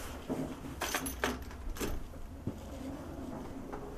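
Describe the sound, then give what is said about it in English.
A door is opened with a few sharp metallic clinks and rattles of keys, clustered in the first couple of seconds, as someone heads out the door, followed by quieter shuffling and room hum. “Okay, now to get out the door.”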